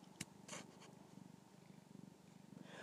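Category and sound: animal, domestic cat purring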